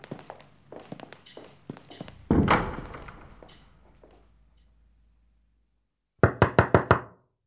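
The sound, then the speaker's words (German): A quick series of five loud knocks rap on a wooden apartment door on a house's second floor near the end, following softer footstep-like taps and a heavy thud earlier on. “aufmachen! Wir haben ein paar Fragen und ich tritt hier die Tür ein.”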